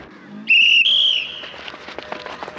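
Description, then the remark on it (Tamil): A whistle is blown as a signal for people to start running, in two loud, shrill blasts back to back, the second trailing off, followed by faint scattered background clatter. “பாருங்க, நான் விசில் அடிச்ச உடனே நீங்க ஓடணும், ரெடியா?”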